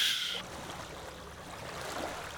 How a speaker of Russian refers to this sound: Давай включаем шум моря и переходим к нашей теме.